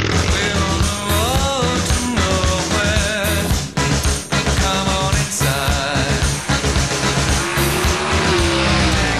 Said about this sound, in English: We've got all the motorcycle clips for Ewan and Charlie, so for when they phone up. That's a bike, by the way, because they're on motorbikes, you see.